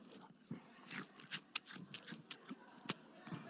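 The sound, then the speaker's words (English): Wet crunching of someone chewing an apple with their mouth open: a quick, irregular run of crisp bites and smacks, fairly loud and alone, with no talking. “Actually, I'm the person in my family who can't stand chewing with the mouth open. So for the fact that I did that, I just cringed myself out.”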